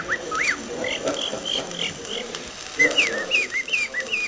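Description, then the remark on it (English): In a 1920s recording, a singer sings imitations of robin, lark and jay songs with his voice, not whistling: quick, high chirps and warbling phrases, repeated in bursts over a faint crackly background, with a brief pause before a brighter run of trills. “Honest, this tall, mustached, ruggedly handsome man would stand in front of an audience, open his mouth, and out would come robins, larks, jays.”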